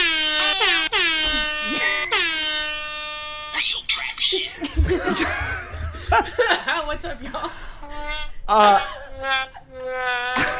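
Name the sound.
air horn blasts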